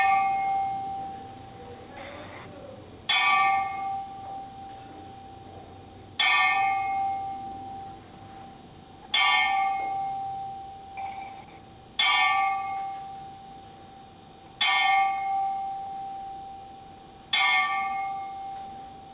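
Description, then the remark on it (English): A single bell is struck slowly and steadily, about every three seconds, each clear metallic ring fading out before the next, in a solemn ten-bell salute for the late Dusty Rhodes, the American Dream. No one speaks. “I'm sure everyone has heard about the passing of the American Dream, Dusty Rhodes, so let's give him a little tin bell salute.”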